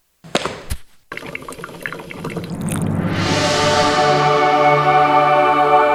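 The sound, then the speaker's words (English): Coffee being poured into a cup, starting with a few clinks and splashes, then a steady, rising gurgle as the cup fills, clear with no talking. “Let's pour some coffee on that.”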